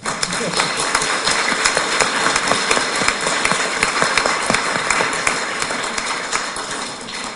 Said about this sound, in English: And before we do this, and before he comes up and maybe thanks some of the people personally, let's already give them some applause before we know who they are.